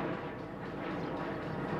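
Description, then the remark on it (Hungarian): A steady, even roar of an airplane passing overhead, a broad droning rush that holds at the same level throughout without rising or fading. “Éppen ott repül.”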